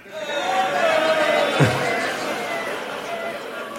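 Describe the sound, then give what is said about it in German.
An audience makes a dense, noisy wash of vocal sounds imitating construction site noise, including concrete mixers, with whirring, droning tones and a sharp falling whoop partway through, loud and sustained throughout. “Alle mal so Baustellengeräusche, bitte.”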